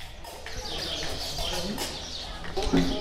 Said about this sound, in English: We're in an empty field surrounded by a couple of open hangars where dozens of birds are nesting. Although this location is just outside of bustling Marrakech, it feels like we're in the middle of nowhere.